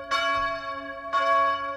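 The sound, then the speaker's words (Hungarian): A church bell tolls the noon bell twice, about a second apart, each strike ringing out with a rich, lingering metallic hum, steady, with no voices present. “1456 Diadala harmadik Kalixtusz pápát is megérintette, aki máig ható, maradandó emléket hagyott a keresztény világra, mindenek előtt a déli harangszóval.”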